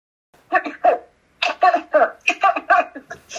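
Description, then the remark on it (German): A woman produces a rapid series of forced, exaggerated coughs, a short pair followed by a longer run of about six throaty bursts, fairly loud, like an imitated coughing fit. “da bekommt sie ja so einen gekünstelten Hustenanfall.”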